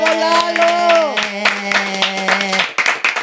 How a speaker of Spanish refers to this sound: Y vamos a recibir, como se merece, con un aplauso al señor Eduardo España.